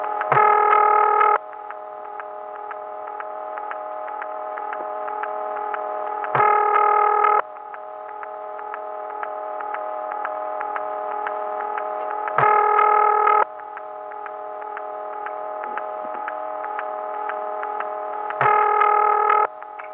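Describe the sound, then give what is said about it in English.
The 1975 ring tone of telephone exchange Office 235 plays over the line: harsh, buzzy tone bursts repeating about every six seconds, with a fainter rasping hum filling the gaps between rings. “Now, this Office 235 is a perfect example. Here's the way the ring sounded in 1975.”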